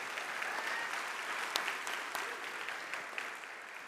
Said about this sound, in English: And so can we just give them all a round of applause to show our appreciation?